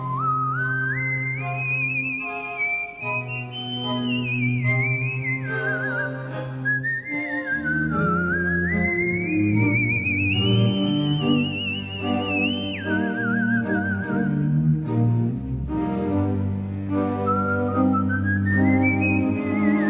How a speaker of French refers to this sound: air pour siffleuses et orchestres, qu'on les a entendus interpréter à l'Olympia.